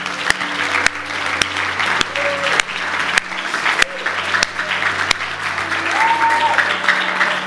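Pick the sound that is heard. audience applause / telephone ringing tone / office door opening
audience applause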